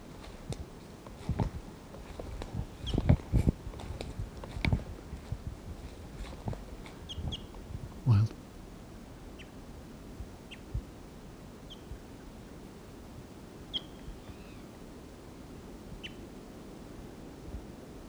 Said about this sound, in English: Wild bird.